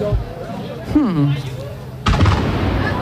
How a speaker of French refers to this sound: Ah voilà. C'est les coups de canon qui sont repartis. On en a un par district, donc ça, on va y en avoir quelques-uns.